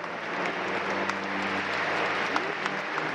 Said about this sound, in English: Then, from the sunny courtyard, he passed beneath a delicately sculpted portal into the shade of St. Lawrence Basilica, where, in stark contrast to the song of the nuns, he was greeted by the tumultuous applause of over 1,000 young academics.